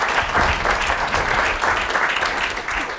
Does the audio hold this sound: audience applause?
yes